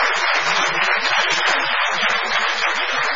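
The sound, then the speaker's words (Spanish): An audience breaks into steady applause for Dolina, a dense, even wash of many hands clapping at full volume for the whole stretch with no voices over it. “Y ahora que Dolina no puede hablar, es un buen momento para aplaudirlo también.”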